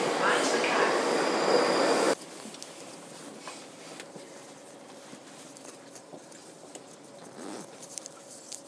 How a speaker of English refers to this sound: Anyway, here comes my train.